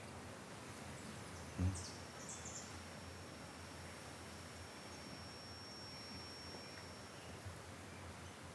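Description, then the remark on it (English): Faint bird song: a few high chirps early on and a thin sustained whistle, heard over a steady hiss of outdoor ambience with one soft thump near the start. No one speaks. “Just this moment where there is nothing, no thinking, just the bird song.”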